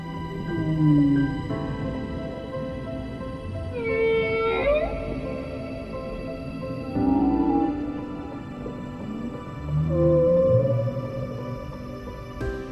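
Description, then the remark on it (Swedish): A gray whale calls underwater in a series of low moans and groans, one rising into a sweeping, whistle-like upsweep, against a steady hiss of the sea with no voices. “Så en gråval.”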